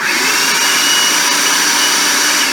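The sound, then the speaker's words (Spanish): A blender roars at full power, grinding black beans (boiled without salt, then cooled and dried) into bean flour with a steady, loud, gritty whir that stays constant throughout, with no voices. “Cocina tus frijoles negros sin sal, en agua hirviendo únicamente, y cuando ya están fríos y secos, los llevas a tu procesador o en tu caso a la licuadora, lo que tengas, ¿ok?”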